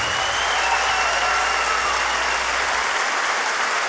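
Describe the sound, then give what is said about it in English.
An audience claps steadily for storyteller Jamie the Wolf after a storytelling performance, a dense, even wash of applause that stays loud and unbroken for the whole stretch, with no voices rising above it. “Put your hands together one more time for Jamie the Wolf.”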